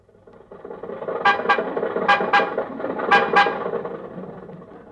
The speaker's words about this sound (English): I was over to Jack's house last Monday, and I finally persuaded him to trade in the Maxwell. Uh-huh. Well, anyway, after a long argument, we got in the car and started toward Hollywood.